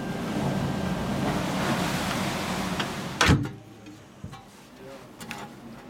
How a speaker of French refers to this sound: Nous sommes bientôt parés à plonger. Il est temps de s'abriter dans les entrailles du sous-marin et de refermer derrière nous la porte étanche, notre unique rempart.